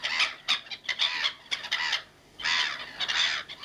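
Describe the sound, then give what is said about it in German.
A flock of black-headed gulls calling in harsh, raucous squawks, several birds overlapping in busy bursts with brief gaps, moderately loud, no voices. “Ja, das sind Möwen. Ja, richtig. Lachmöwen.”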